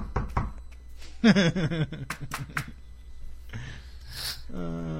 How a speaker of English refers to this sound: Knock on wood.